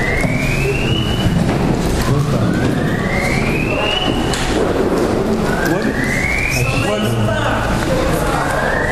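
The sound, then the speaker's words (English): A siren wails outside, its pitch sweeping upward in three repeated rises over a steady wash of background noise, fairly loud, with faint voices murmuring underneath. “Somebody's car?”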